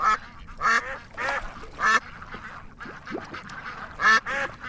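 Ducks quacking in bursts, played as an audio screensaver, several loud nasal quacks with brief pauses between, over a soft outdoor background.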